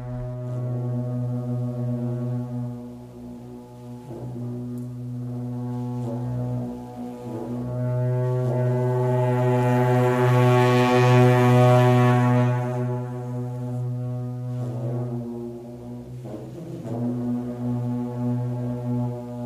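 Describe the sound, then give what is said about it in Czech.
Tibetan ritual music of deep, sustained drones from dung horns, very long collapsible metal tubes, with rich buzzing overtones, the low tone holding steady while swelling louder midway and then easing off. No voices are present. “Dnešní oáza bude pozvánkou do světa tibetské rituální hudby.”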